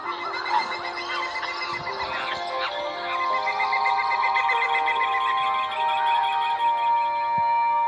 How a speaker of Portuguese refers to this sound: E então, os animais da floresta começaram a gritar para chamar o Curupira.